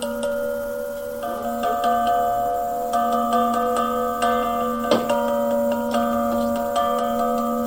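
A bell is struck several times at uneven intervals, each strike sending out its full chord of overlapping tones, with the fundamental at the bottom, over a steady low hum. The ringing stays fairly loud throughout, with no voices.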